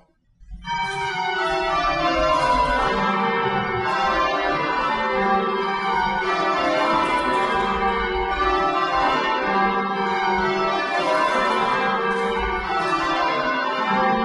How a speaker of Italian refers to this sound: Qui, la domenica mattina, si sentono i bell ringers che suonano le sei campane del campanile della St. Salvator's Chapel.